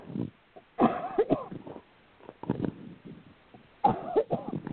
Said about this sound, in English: I seem to have developed a cough as soon as we went live on the air, which just makes live shows very interesting.